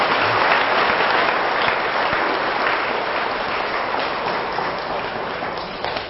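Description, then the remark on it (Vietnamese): A crowd claps loudly and steadily for about six seconds, a dense, even wash of many hands that fades only slightly toward the end, with no talking over it. “Hãy dành một tràng vỗ tay thật lớn.”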